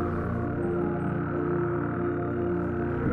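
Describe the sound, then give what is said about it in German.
A dense, continuous chorus of frogs croaking at a small lake in a forest clearing, with deeper, throatier toad calls woven through it, steady and fairly loud throughout with no voices. “Frösche stimmen ihr Konzert an, während sich dazwischen das tiefere Rufen einzelner Kröten mischt.”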